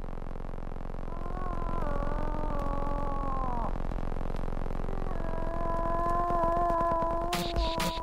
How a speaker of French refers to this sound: C'est l'appel impressionnant du roi de nos forêts, l'orignal. À l'automne, au temps des amours, le cri de la femelle orignale en quête d'un amoureux domine les autres sons de la nature québécoise.